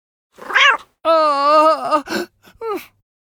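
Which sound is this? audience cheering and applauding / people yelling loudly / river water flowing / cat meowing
cat meowing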